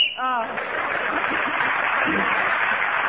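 A short, shrill whistle blast marks the end of a round in a panel game, sounding at the very start as a contestant is speaking, then gives way to steady, loud applause that carries on to the end.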